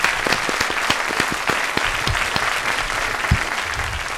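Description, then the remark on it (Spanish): A studio audience on a Spanish-language TV programme claps steadily to welcome a guest doctor, dense overlapping handclaps forming a continuous wash of applause with a few sharper individual claps standing out, sustained at a fairly loud, even level. “Un aplauso para ella.”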